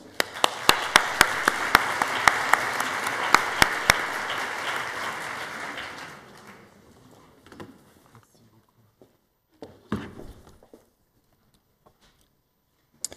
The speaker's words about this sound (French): Et je vous demande d'applaudir M. Rémi Pagani qui va prendre la parole.